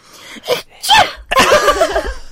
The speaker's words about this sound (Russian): Можешь чихнуть, пожалуйста? Мне нравится, как ты чихаешь. Как я чихаю? Как дельфин. Как дельфин.